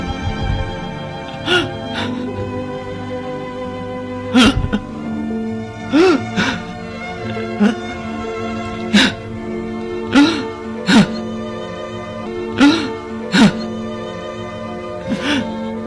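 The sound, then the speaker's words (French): A person lying on a bed sobs and whimpers in short, shaky bursts about every second or so, with catching breaths between, over a steady sustained tonal background. No words are spoken. “Je ne sais même pas pourquoi je pleure.”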